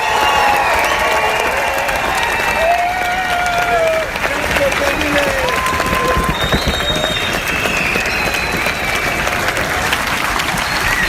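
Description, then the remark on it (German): Loud, sustained applause from a large enthusiastic audience at the grand finale of a circus gala, dense clapping with cheers and whistles rising above it, filling the whole stretch without pause. “Und zum Abschluss gibt's noch einen Ausschnitt vom Applaus eines begeisterten Publikums zum großen Finale der Gala.”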